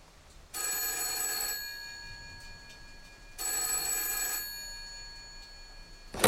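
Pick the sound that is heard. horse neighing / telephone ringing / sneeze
telephone ringing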